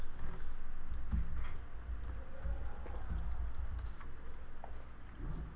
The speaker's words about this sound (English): If we end up using the sneaky backup audio, I'm recording with the laptop. I can only apologise for the typing noises that are happening.